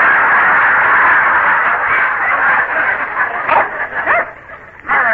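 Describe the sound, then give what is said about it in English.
A hypnotized man imitates a big brown Airedale dog barking, a loud run of rough, growly woofs that build into sharper yaps and yelps toward the end. “you are an Airedale. A big, brown Airedale. Speak.”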